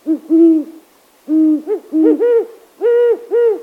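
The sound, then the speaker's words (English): Several mellow, resonant hoots of a huge owl with pointy, ear-like tufts at night, deep and rounded, in a rhythmic sequence of short and drawn-out notes with brief pauses between, heard clearly with no other sounds. “At night, listen for these mellow hoots.”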